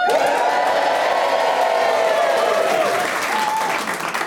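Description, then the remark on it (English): A studio audience cheers loudly, a dense wash of clapping and whooping with a few sustained shouted tones riding on top, steady for several seconds before easing slightly. “If you're thrilled with your lot, give us a cheer.”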